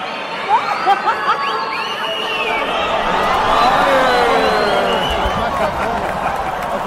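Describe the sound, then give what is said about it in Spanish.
A large crowd at Arena México roars and cheers at a Mexican lucha libre show in a dense, sustained wash of voices, with shouts and whistles rising above it and a few sharp claps early on; the noise swells steadily before easing slightly. “Pues estamos gozando el ambiente en la Arena México.”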